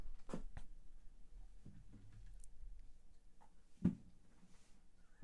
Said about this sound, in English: Fucking dog is just destroying my chair right now.